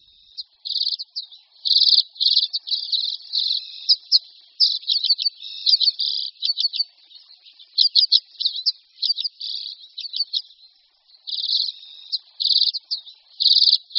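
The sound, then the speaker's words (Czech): A common redpoll sings a long run of buzzy, twittering trills and rapid chattering notes, high-pitched and fairly loud, broken by short pauses, with no voices present. “Pokud tento zpěv uslyšíte v červnu někde na Šumavě a ornitolog vám řekne, že jste právě poslouchali zpěv čečetky zimní, budete jistě trochu překvapeni.”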